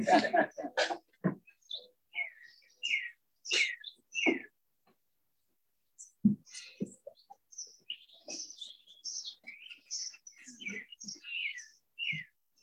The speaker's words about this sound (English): Well, it's nice that the birds came in right on cue.